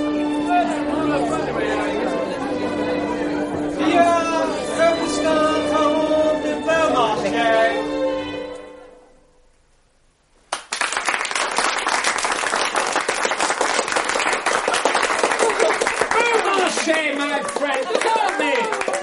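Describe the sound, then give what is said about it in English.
Voices and a steady tone fade into a brief silence, then a crowd bursts into sustained, loud applause for the arrival of a guest of honour, a dense, even patter of many hands clapping that continues to the end. “Why is everyone applauding?”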